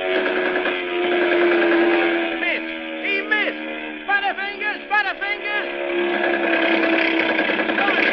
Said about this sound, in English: But this time, it is not a ship they aim for. Their target is a group of defenseless, oil-blackened men clinging desperately to a tiny raft. Now the planes circle and come roaring in for the kill.